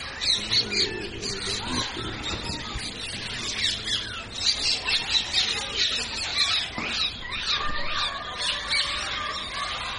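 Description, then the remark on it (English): A dense chorus of parrots squawking and chattering continuously, with shrill, overlapping calls throughout. The flock stays busy the whole time, with no talking. “Any parrots?”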